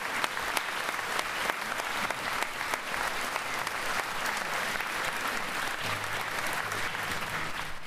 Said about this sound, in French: mérite vraiment ces applaudissements, c'est une mélodie merveilleuse. Je vous applaudis.